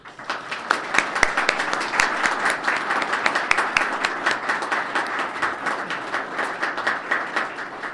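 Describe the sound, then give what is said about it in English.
An audience at the NTN Bauer campus applauds the NTN Bauer staff for their commitment to the community and region, many hands clapping in a dense, crackling patter that holds at an even loudness for several seconds, with no voices standing out. “So again, if we could applaud the NTN Bauer folks here for their commitment to our community and region.”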